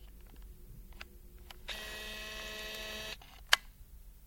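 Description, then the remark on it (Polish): The zoom lens motor of a photo camera, recorded in a studio, whirs steadily for about a second and a half, quiet, with a few faint ticks before it and one sharp mechanical click just after. “I właśnie przyniosłem swój aparat fotograficzny do studia i nagrywałem pracę tych mechanizmów, które robią zoom w tym aparacie.”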